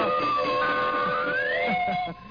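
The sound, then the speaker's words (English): Bells ring and whistles blow together as radio sound effects on the Jack Armstrong, the All-American Boy program, a loud, continuous din with steady high tones and one pitch that slowly glides upward before the noise drops away near the end. “I'd like to ring bells and blow whistles.”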